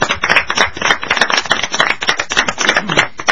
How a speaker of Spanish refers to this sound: Nos aplaudimos nosotros mismos. Está muy bien.